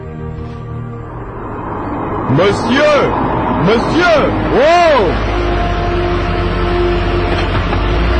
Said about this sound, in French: Il faut absolument que je rencontre quelqu'un. Mais je crois entendre une voiture. Je vais faire du stop.